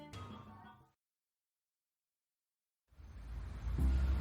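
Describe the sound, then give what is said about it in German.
After a short burst of sound and a stretch of silence, the deep engine rumble of a Peugeot 403 car, which had been parked in front of a building, rises steadily in loudness as the car comes closer and closer. “Dann kam mein Auto, welches ich vor dem Gebäude geparkt hatte, immer näher.”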